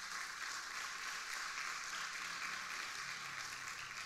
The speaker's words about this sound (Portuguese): Amém ou não? Se você crer, dá uma salva de palmas a Jesus.